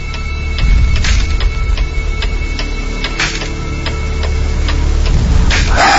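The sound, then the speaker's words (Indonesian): A wall clock ticks in a dormitory room with the light off, in a quiet grade 10 dormitory block, with wind outside. Its sharp clicks come in a steady, even rhythm about half a second apart over a low, constant background hum, with a few softer rustling swells in between. “Hening dan hanya ada suara jam dinding bersautan.”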